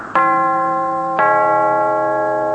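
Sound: doorbell ringing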